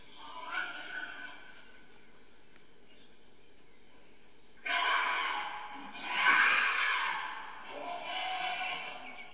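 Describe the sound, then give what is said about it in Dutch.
Male wild boars, one about 140 kilos, squeal and scream as they fight, pushing with their full weight; a faint harsh cry at first, then loud, raspy, continuous shrieks that swell and surge for the second half, with no talking. “Enorm harde gillen en schreeuwen geven ze af. Ze met elkaar aan het vechten zijn.”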